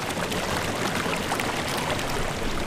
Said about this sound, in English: Well, that's not the case now. Right now, because we're not getting that snowpack that we used to. So instead of rushing water, it's now more like a slow-moving stream.